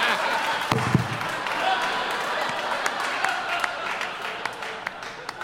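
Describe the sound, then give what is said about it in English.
A crowd applauds steadily throughout, a dense wash of many hands clapping at moderate volume, with a brief low thump near the start and no clear voices. The audience claps when asked to applaud if they don't think the film Equilibrium is that great. “Now applaud if you don't think it's that great.”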